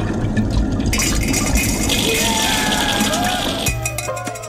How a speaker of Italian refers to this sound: Misuratore di portata. Attivo. Valvole 1 e 2. Aperte. Pressione. 29,5. Bene, aprite il rubinetto.